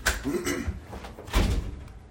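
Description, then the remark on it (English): A locked door rattles and thumps in its frame as someone pushes and pulls at it, trying to come through without it opening, with a heavier bang midway, slightly muffled. “That is the first time I've ever seen someone try to come through that door, so just leave it alone.”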